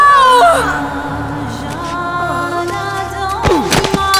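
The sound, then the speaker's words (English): A woman screams in anguish, a loud, sustained, wavering cry that bends in pitch, with a sharp thump partway through and no talking. “Her scream drew their attention as Dasha collapsed, quivering on the ground.”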